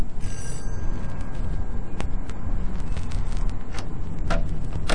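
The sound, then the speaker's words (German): A doorbell rings in a steady, rattling electric trill over a dense hiss, broken by a few sharp clicks; no one speaks. “Machen Sie keine faulen Witze, klingeln Sie.”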